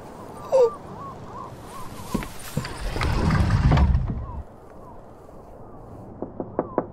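Several sharp, quick raps on a door come near the end, distinct, following a stretch of low rushing noise and faint background sounds.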